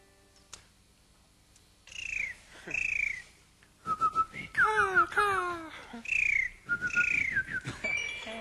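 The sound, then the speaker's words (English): An overdubbed bird call rings out in a string of bright, whistled chirps and sliding notes, with a quick trilling burst midway, loud, and no talking. “To overdub the bird, folks.”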